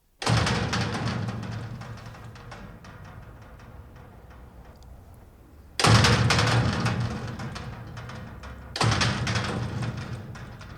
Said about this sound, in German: Ja, wir haben beispielsweise ein großes Eisentor am Hof aufgenommen. Das klingt dann so.